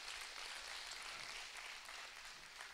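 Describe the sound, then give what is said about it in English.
An audience applauds the Lord steadily, a dense crackling wash of many hands clapping at an even, fairly loud level throughout, with no voices standing out. “If you believe that, would you give the Lord a big round of applause?”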